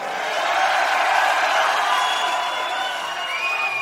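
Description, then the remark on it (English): A large concert crowd in Chicago screams and cheers in one steady, loud roar lasting the whole few seconds, with a few shrill high-pitched shrieks cutting above the wash of voices. “You like to scream out there, Chicago?”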